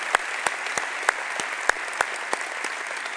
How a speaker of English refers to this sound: So I want you to give a big round of applause to the staff and the volunteers as well.